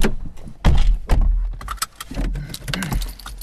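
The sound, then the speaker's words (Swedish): The keys to a newly acquired studio jangle in a quick series of bright metallic clinks and rattles, along with a low thump and some rustling, as if handled near a car door. “Jag sitter ju här med nycklarna.”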